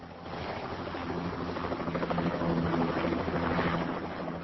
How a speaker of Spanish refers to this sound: Cuatro y media levantando vuelo, si no viniste en auto, venite en el helicóptero